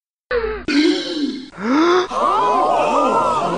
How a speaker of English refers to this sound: You may well gasp, but this will always be a news nugget.